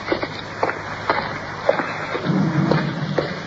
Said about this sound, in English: Cars overhead.